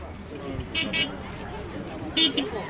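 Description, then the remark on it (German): Street ambience in Niamey, Niger, with a steady low traffic rumble on sand roads and background chatter, punctuated by a few short car horn toots. “Fast alle Straßen sind Sandpisten. Der Verkehr ist ruhig. Der Sand dämpft die Geräusche, nimmt ihnen die Spitzen.”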